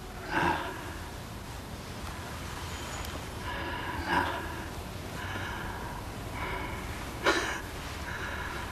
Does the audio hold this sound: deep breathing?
yes